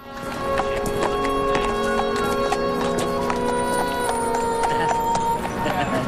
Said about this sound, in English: Two tramps giggle as Tyler walks along leading the foal on a rein.